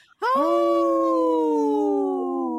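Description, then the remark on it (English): A single wolf howl rises sharply and then holds a long, steady, slightly falling tone, loud and clear with rich harmonics, with no other sounds around it. “In this portion of the show, we'd like to bring awareness to our Minnesota wolf population.”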